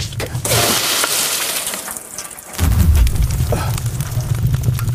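A bucket of water splashes and hisses onto burning stones in a cargo hold, then a deep, rumbling whoosh of fire swells up loudly and keeps roaring steadily to the end, with no voices.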